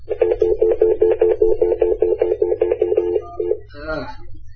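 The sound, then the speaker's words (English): A phone number being dialed: a fast, evenly spaced run of more than a dozen touch-tone beeps over a low background hum, ending in a short warbling burst of sound. “I probably screwed up the phone number, too.”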